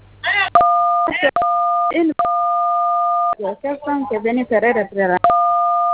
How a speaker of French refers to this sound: Évitez de toucher les boutons de votre téléphone.